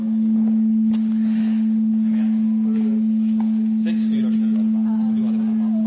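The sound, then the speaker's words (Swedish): A steady, low electronic tone, played during a church service to wake listeners up after the sermon, hums continuously for about six seconds without changing pitch, while faint voices murmur underneath it. “Det här är inte bönor, utan det är liksom, vad heter den här tonen som går innan för att vi ska vakna upp efter predikan.”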